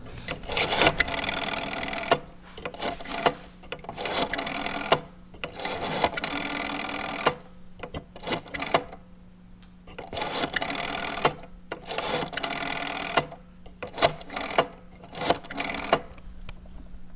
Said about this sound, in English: I'm going to show you something else here, but first I want you to just try another dial. Okay. Because this is. I love the sound of the dial on the phone itself.